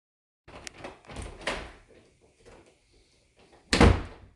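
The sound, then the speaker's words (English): A key rattles and clicks in the lock of a locked door, followed by the door being pushed open with a few thuds and creaks, ending in a louder bump. No one speaks. “Oh my god, you have a key.”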